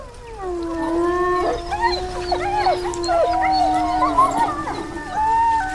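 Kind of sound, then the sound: animal, wolves howling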